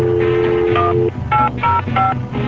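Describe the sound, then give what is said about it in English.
A quick run of telephone keypad dialing tones as a call is placed, about half a dozen loud beeps in rapid succession with slightly different pitches, and no voices. “No, we call live? All right, Buzz, just wait for him to pick up the phone”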